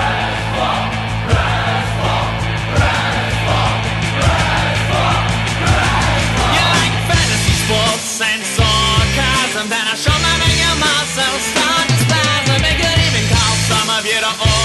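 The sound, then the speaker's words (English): Loud, full band theme music by a band, plays with a driving bass line and dense guitars, shifting about halfway through into a choppier, stop-start rhythm, with no talking over it. “And here we go with their new name, the …, now known as ….”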